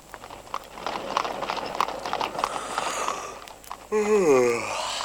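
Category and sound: animal, horse-drawn carriage hooves clip-clopping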